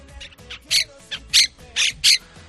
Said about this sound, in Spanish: Y todo esto es lo que nos están dejando las 12.000 cotorras de procedencia argentina que están invadiendo Madrid. Sí, dicen los expertos que no están en su hábitat natural y eso hace que se vuelvan más agresivas.